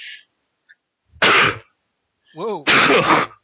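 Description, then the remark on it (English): A loud sneeze bursts out, followed a moment later by a voiced intake and a second harsh sneeze or cough, with faint breathy sounds before. “Some sneezes / coughs there.”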